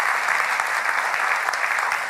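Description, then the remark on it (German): Steady, dense applause from a church audience, a continuous wash of many hands clapping at once, fairly loud and sustained with no talking over it. “Ja, mal ein Applaus”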